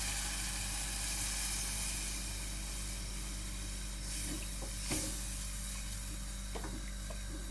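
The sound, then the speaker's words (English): A pan sizzles steadily throughout, with a low mechanical hum beneath and a few brief clatters and splashes midway as a tin of light coconut milk is poured in. No one speaks. “What I'm going to do now is I'm going to add a tin of coconut milk.”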